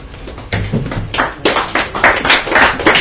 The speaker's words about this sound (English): I go on applauding. You know? I hate when people go up and say, please don't applaud, because it sort of seems like a bit prim, but I just don't want you to feel obligated to applaud. I love applause.